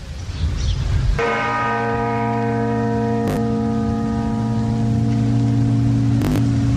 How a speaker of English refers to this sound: The time is 11:59. Radio Victory has approximately 1.5 minutes left to live. And when you hear the chimes coming from the Portsmouth Guildhall clock, the time will be 12 midday.